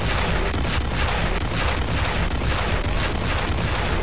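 A loud, continuous barrage of explosion sound effects, with deep booming rumbles and crackling blasts piling on one another for several seconds, with no voices.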